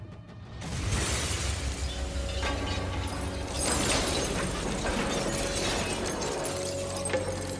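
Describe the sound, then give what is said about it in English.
A loud crash of breaking glass bursts in, followed by several seconds of dense, continuing shattering and clatter, with a steady tonal drone running underneath and no talking. A large mirror window of an upstairs office, hit by a thrown wooden plank, shatters and showers a casino with glass. “The window shatters, showering the casino with glass.”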